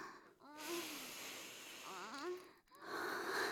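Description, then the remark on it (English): Two long, deep sniffing breaths drawn in through the nose, loud and airy with a faint wheezy, voiced edge, separated by a brief pause before a third breath starts. “Nice deep huffs.”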